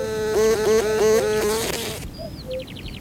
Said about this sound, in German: Eine Schwebfliege hat das gefährliche Hindernis übersehen, ist mit voller Geschwindigkeit ins Netz geflogen. Darauf hat die Wespenspinne nur gewartet.